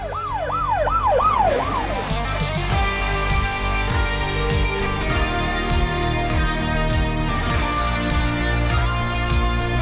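An emergency vehicle siren wails off in the distance on the Helsingør Motorway, rising and falling quickly for a couple of seconds before fading into steady road traffic noise. No one speaks.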